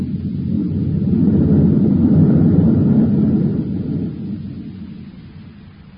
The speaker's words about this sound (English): All right, George. Cut in those forward rockets.